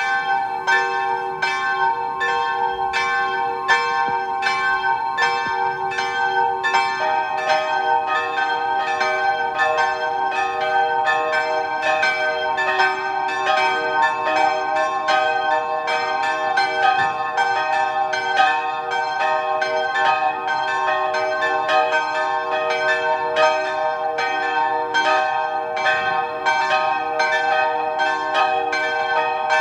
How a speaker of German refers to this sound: Es ist 12 Uhr. Sie hören die Glocken der Klosterkirche der Barmherzigen Schwestern in Zams in Tirol.